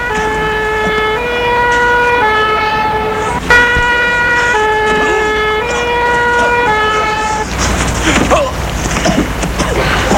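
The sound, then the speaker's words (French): A fire engine's two-tone siren wails loud, alternating steadily between a high and a low pitch for several seconds before giving way to rumbling street noise. “Il entend les pompiers.”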